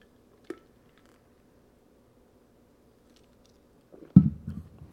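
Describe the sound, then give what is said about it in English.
A wet sip of Diet Mountain Dew near the end, after a single faint click and a few seconds of quiet room hum. Nobody speaks. “Let me take a sip of this Diet Mountain Dew.”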